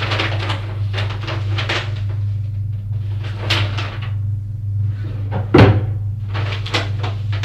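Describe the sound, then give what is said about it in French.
Cupboard doors, sideboards and drawers are opened and shut in a busy series of knocks, scrapes and rustles, with one sharper bang near the end, all over a steady low hum. “Les buffets. Les tiroirs. Les derniers papiers. Les lettres.”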